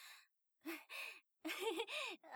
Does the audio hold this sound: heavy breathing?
yes